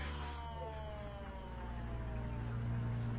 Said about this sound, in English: At least it's an ambulance.